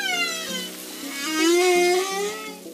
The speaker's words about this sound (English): Ocean creatures make all kinds of sounds. Some you're probably familiar with. The haunting song of the humpback whale.